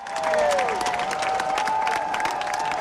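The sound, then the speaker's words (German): Thousands of fans cheer and applaud continuously in bright sunshine at the Frankfurter Römer in Frankfurt, Germany, at a reception for the German Olympic team. Dense clapping is mixed with whistles and a sustained high whistle tone, loud and steady throughout with no talking. “Strahlender Sonnenschein auf dem Frankfurter Römer, ausgelassene Olympioniken und tausende jubelnde Fans.”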